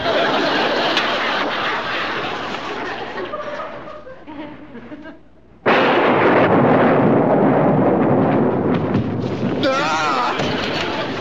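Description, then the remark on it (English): A loud thunder crash bursts in halfway through after a rumbling, fading stretch, then roars on as a dense, sustained rumble of a lightning storm. “If there's anything I'm more afraid of than gollywoggles, it's lightning.”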